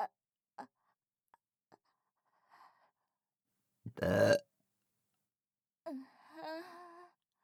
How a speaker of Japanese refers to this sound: おいしかった。全部飲み込んでのゲップですっきりしました。